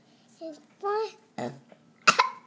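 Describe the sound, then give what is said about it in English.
A child makes a few short voiced sounds, followed by a loud, rough burp, then another abrupt throaty burst right after. “Oh, that was quite a burp.”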